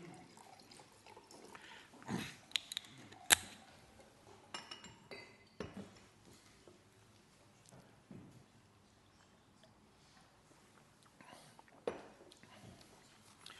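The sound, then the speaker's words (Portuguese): Water is poured into a drinking glass, with a few sharp clinks of glass and handling noises scattered through. “Isto é o meu copo, suponho eu, não é? Não, mas preciso de água.”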